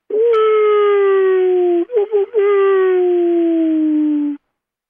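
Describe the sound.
A person imitates a wolf howl with a long, sustained wavering tone that slowly drops in pitch, breaks briefly in the middle with a few short catches, then continues falling before stopping abruptly.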